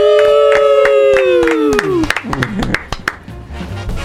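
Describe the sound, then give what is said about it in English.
An audience claps in a steady rhythm, a dozen or so sharp claps, over a loud sustained voice or cheer that slides downward in pitch, then the clapping turns looser and scattered. “We clapped.”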